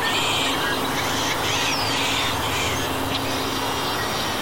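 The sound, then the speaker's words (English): Outdoor ambience at a desert wetland of reeds and ponds among sagebrush-studded hills in the mid-Columbia, with a steady wash of background noise, scattered bird chirps and calls, and what sound like duck quacks layered throughout, no voices present. “We're amid sagebrush-studded hills that plunge down into reeds and ponds.”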